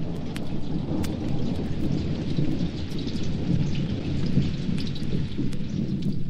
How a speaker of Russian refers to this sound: Что-то зашумело ближе, ближе, и первые тяжелые большие капли дождя упали на землю. Через несколько мгновений все превратилось в большую серую массу. Целые реки полились сверху. Была настоящая южная гроза.